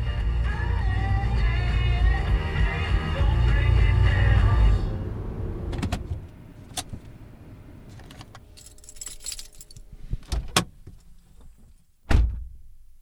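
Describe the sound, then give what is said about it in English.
A steady low rumble of a car driving across town fades out, followed by quiet clicks, a jangle of keys and a single loud thump of a car door shutting. “So I hopped in my car and drove across town, balancing this tub of ratatouille in the cup holder.”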